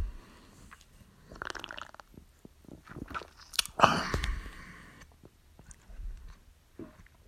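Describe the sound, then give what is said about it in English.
Quiet mouth sounds of someone taking a first sip of cold Internight Pilsner beer from a can, with a soft slurp and a wet gulp in the middle and small smacks after, no talking. “And I'm going to take my first cold sip of Internight Pilsner.”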